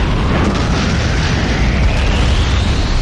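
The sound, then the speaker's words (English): A dense, continuous rumbling roar of crashing debris fills the whole clip at steady high volume, with a faint rising whistle sweeping upward over it. It is a video game attack effect: the foe Trio Guardian using its special move Stone Storm. “Foe Trio Guardian used Stone Storm.”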